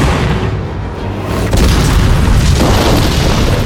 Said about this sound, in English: Explosions were titanic, the German soldiers scattering everywhere. Just outside the town, the rest of the US column heard the terrific bang and the ensuing gunfire and watched as a plume of smoke rose up in a fiery mushroom cloud.